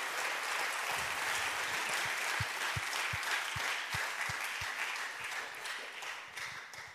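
Steady applause from an audience for three participants, a dense wash of many hands clapping at an even level for several seconds, with a few sharper individual claps standing out before it begins to thin slightly.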